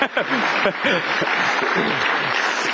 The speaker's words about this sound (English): She deserves applause.